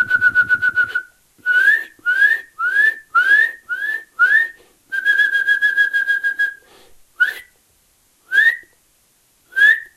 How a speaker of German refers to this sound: Sein Gesang besteht nämlich auch aus seinen Rufen. Ihr müsst genau hinhören, wie ist die Art und Weise, wie er seine Rufe aneinanderreiht und wie er sie vorträgt. Und wenn ihr da euer Ohr schult, Kleiber in eurer Nähe hat, diese üb, üb, üb, üb.